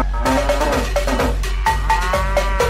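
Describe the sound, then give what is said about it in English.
A cow moos loudly, a drawn-out, wavering bellow that fills the whole moment, with a few sharp rhythmic clanks or knocks punctuating it and no voices. “I got a fever. And the only prescription is more cow.”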